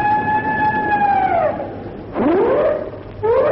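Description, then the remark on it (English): A ship's siren, sounded by the skipper as a signal, gives a long, loud wailing tone that sags in pitch as it fades, followed by two shorter rising whoops, with no voices. “It's the skipper signaling. I can see him at the siren call. One long.”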